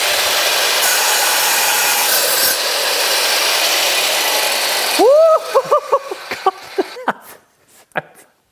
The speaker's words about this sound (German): Wir sägen jetzt einen Zapfen mit einem Schnitt und 4 Sägeblättern. Wir halten das Werkstück nach vorne, zünden den ersten Motor, Zündung, den zweiten und los!